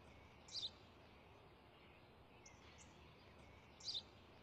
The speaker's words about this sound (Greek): Είναι ένα σπουργίτι.